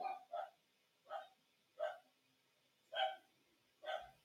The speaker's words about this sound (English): I apologize if you hear my dogs. I have somebody at the door.